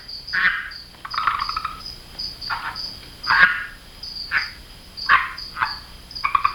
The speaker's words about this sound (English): Boston University grad student Michael Caldwell studies the red-eye tree frog, which is native to South America.